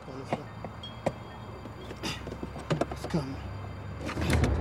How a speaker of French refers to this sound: Il força la porte du coffre à gants.